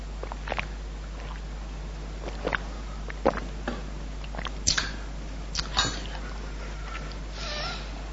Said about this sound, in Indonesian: Ana izin minum dulu ya. Bismillah.